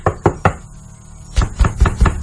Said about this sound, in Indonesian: Sampai belum selesai aku di kamar mandi, ada yang mengetuk pintu kamar mandi. Aku terdiam sejenak, hingga ketukan itu kembali terdengar.